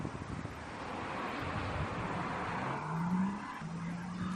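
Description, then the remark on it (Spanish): A car drives steadily through the empty streets of the Chinese city of Wuhan during a lockdown, its engine hum rising in pitch, with broad wind and road noise filling the background and no other traffic or voices. “Bueno, pues este es el sonido de un coche atravesando la ciudad china de Wuhan.”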